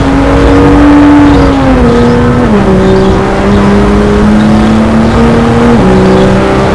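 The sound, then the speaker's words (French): A loud race car engine accelerates steadily, its tone climbing and then dropping at two gear shifts before rising again, a constant roar throughout with no voices. “Elle fonctionne vraiment à merveille cette voiture.”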